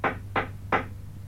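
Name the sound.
knocking on a door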